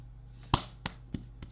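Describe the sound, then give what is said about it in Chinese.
Four soft, muffled pats on the back of someone who is coughing, in a slow, even rhythm, the first the strongest and the rest gradually lighter, with no voices. “帮你拍拍背。”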